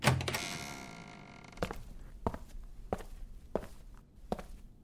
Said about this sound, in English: opened the door and went into a small room.